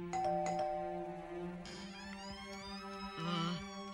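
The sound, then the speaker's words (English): A doorbell at an inn called the Prancing Pony chimes several times, its bright ringing tones striking and lingering over a steady low hum, with the strikes overlapping into a sustained, fairly loud ring. “Another doorbell.”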